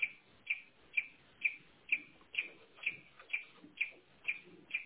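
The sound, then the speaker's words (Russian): A Smart-UPS 1500 unit, fully switched off and without power, beeps steadily, short high-pitched tones repeating about twice a second, roughly ten beeps in a row with a faint low hum underneath and no voices. “Ну и он пищит, хотя вот он без питания полностью выключен, я не знаю, как его выключить.”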